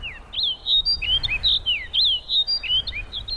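Snow bunting calls: a steady run of bright, warbling chirps and rising-falling whistles, clear over a soft background rumble, with no talking.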